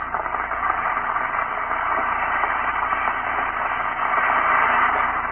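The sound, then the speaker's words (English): Two Alka-Seltzer tablets fizz in a glass of water with a steady, dense hiss of tiny crackling bubbles that holds an even loudness for several seconds, with no voices over it. “Drop two tablets into a glass of water like this. Listen for a moment to that famous fizz.”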